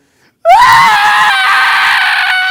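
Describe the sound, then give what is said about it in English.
A voice imitates a toddler crying hard: after a brief silence, one loud, high, sustained wail bursts out, rising slightly in pitch and holding steady, strained and piercing, until the end. “Virtually every day a toddler has a crying breakdown at some point.”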